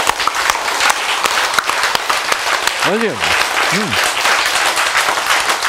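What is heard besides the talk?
hands clapping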